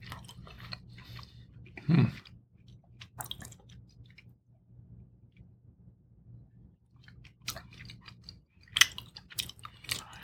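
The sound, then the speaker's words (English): Chewing of Parmesan cheese eaten on its own alongside wine, with moist crunches and smacking bites arriving in irregular bursts over a low steady hum, louder around the start and end, with no talking. “I don't know about the cheese here. It's not bad.”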